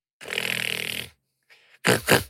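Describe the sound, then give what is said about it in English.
A voice imitates loud, obnoxious snoring coming from the other side of a door: one long rattling inhale, a brief breathy pause, then two quick snorting bursts, alone with no talking. “When you knock on Snap's door, you can hear like really loud, obnoxious snoring coming from the other side of the door.”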